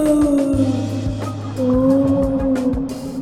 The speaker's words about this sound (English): Whoa! I think I hear some whales swimming past right now.